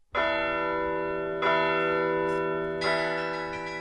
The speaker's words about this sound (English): Some 180 Carillon bell towers dot the United States. They're mostly at churches and on college campuses. But few people rushing to classrooms or to a church service realize there's an actual person up in that tower.